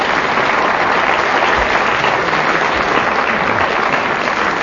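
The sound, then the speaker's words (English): Sustained applause from an audience for the teams at the end of a quiz round, a dense steady wash of clapping hands at even loudness throughout, with no voices standing out. “And the reason that I asked for that unsolicited applause is that they've both drawn level.”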